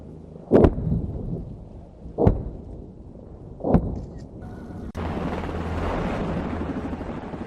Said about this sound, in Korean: 한국군의 K-200 장갑차가 엄청난 화력과 폭발음을 내며 포탄을 발사하자 표적이 폭파되며 흙먼지가 피어오릅니다.